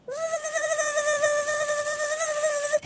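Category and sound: insect, mosquito buzzing in flight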